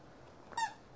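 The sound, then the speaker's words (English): A single short, bright squeak from a squeezed toy animal, rising out of quiet background hiss and lasting only a fraction of a second. “He squeaks. I don't know why.”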